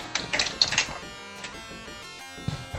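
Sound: keyboard typing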